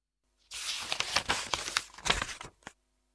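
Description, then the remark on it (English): Paper rustles and crinkles as book pages are turned back to the beginning, a quick run of dry swishes and flaps lasting about two seconds, with no one speaking. “Let's read the book again. Turn to the beginning.”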